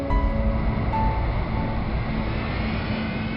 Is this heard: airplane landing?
yes